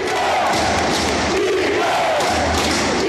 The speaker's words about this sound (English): And when the Warriors finally won the title, they did it in Cleveland, while 17,000 fans packed a sold-out Oracle to make noise for a team that couldn't even hear them.